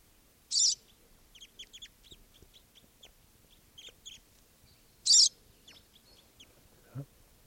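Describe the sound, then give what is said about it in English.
Short, high chirping calls of free crossbills, birds not yet captured, come in scattered bursts, with two louder, sharp call notes standing out against quieter twittering; no one speaks. “According to the calls of the birds that are free.”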